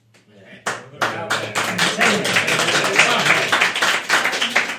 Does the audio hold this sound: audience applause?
yes